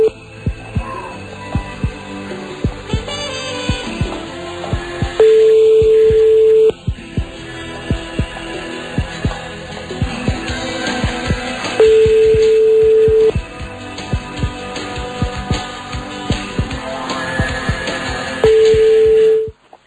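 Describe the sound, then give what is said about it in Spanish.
A telephone line rings back with three steady, buzzy tones about 1.5 seconds long, spaced several seconds apart, over a busy background of music and clicks. “Un besote y por ahí está ya el teléfono sonando.”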